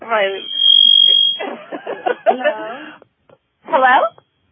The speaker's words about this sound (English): I just had this feeling about that beep.